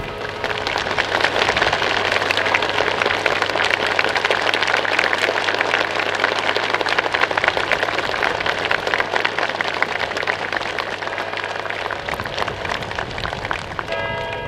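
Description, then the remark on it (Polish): A crowd applauds in a dense, steady wash of clapping that holds strong for about twelve seconds, then thins out and fades near the end, greeting the clock of the Royal Castle in Warsaw as it starts running at 11:15. “Także symbolicznie o 11.15 ruszył ten zegar i dostał klaski.”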